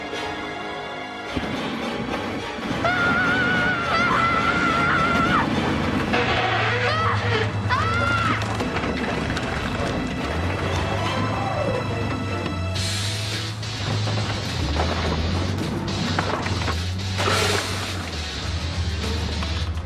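The Joliet Annual Car Festival in Joliet, Illinois: steady engine rumble and crowd murmur fill the outdoor scene, with bright tonal sounds drifting through, dense and continuous at a fairly loud level.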